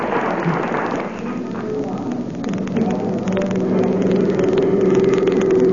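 car engine driving

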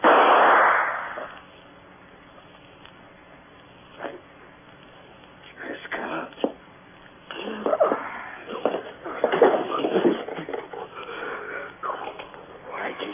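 gunshot

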